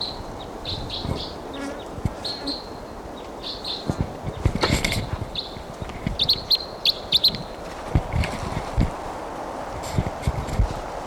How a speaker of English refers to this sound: Bird, different bird.